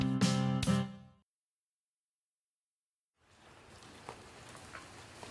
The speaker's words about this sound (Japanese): 雨、強くなってきた。これじゃ帰れないや。